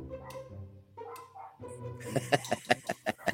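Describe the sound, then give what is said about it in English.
A dog named Marvel whines and whimpers in rising and falling tones, then breaks into a quick run of about six sharp barks in a steady rhythm. “Ladies and gentlemen, Marvel the dog.”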